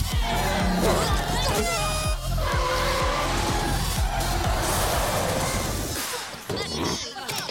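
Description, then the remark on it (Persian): Carl's bus, carrying riders, roars along at speed while its tires screech and skid loudly. The squealing and engine noise run steadily for several seconds before easing near the end. “اینی که سوارش هستید اتوبوس کارله.”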